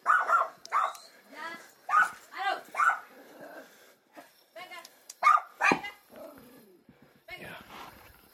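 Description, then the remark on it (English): Several stray dogs bark and yip in quick, overlapping bursts at night, with a few whining notes between, while a house owner shouts at them to shut up before the barking thins out. “House owner that is attached to this place is telling the dogs to shut up.”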